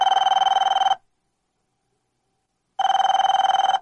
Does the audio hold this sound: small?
no